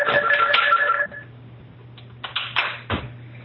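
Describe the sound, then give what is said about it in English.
A telephone in an office rings loudly for about a second, its bright electronic trill cutting off abruptly, followed by a few clunks and handling knocks over a steady low hum. “Little trauma in the office here. Okay, now that the phone's disconnected.”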